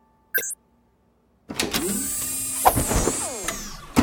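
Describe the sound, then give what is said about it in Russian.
A short electronic beep, then a washing machine, switched to wash mode by a smart-home voice command, kicks into action with a steady mechanical whirring and churning hum that grows busy and continues to the end, fairly loud. “Производится стирка.”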